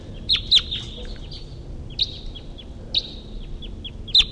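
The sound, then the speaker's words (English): A wild bird flying over calls from a distance in short, high, sharp chirps, a couple close together then spaced bursts, over a low steady background rumble with no talking. “A wild bird at least flew over. And it's calling from the distance.”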